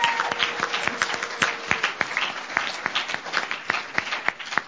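A crowd at a panel event hosted by Freaky Paw breaks into steady applause for the panelists, many hands clapping together in a dense, continuous patter with sharper individual claps popping through, sustained for several seconds without any talking.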